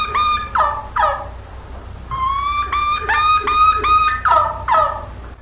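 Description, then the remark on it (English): A wild turkey's kee-kee run, an all-around fall-season call: a series of high, thin whistled notes rising into rougher yelping notes, repeated in quick clusters, clear with no talking. “here's the key run. That was really good, good for that day. An all-around call in the fall season.”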